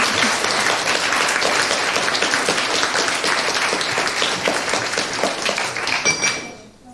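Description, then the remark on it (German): A crowd applauds the presenting group Quizly with dense, steady clapping for about six seconds, loud and sustained, then it tapers off quickly at the end. No one speaks over it. “Und dieses Glitzern wird Quizlies auch in eure Augen bringen. Applaus!”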